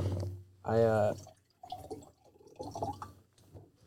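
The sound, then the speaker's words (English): Water pours briefly into a glass, a short gurgling fill with a rising pitch, followed by people talking in the background. “Yo, you want any more water?”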